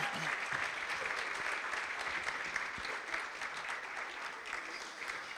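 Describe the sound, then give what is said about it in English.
Steady, sustained applause from a crowd, dense rapid clapping at an even loudness throughout, with no voices standing out. “I think they've been waiting there for another round of applause.”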